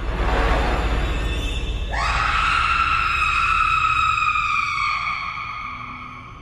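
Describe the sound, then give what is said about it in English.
A mother lets out a long, piercing scream that rises sharply and holds for about three seconds before breaking off, set against a dull, rumbling background with no talking. “Zoe hears her mother screams from her hiding place inside the vent shaft”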